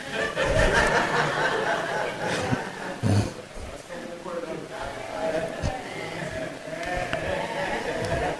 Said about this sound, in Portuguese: As ovelhas estão chamando os pastores.